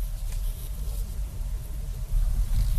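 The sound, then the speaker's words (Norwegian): An electric car rolls slowly and quietly on electric power up into a driveway, its low engine rumble steady and subdued, with no voices over it. “Hæft, den stille, den bil der.”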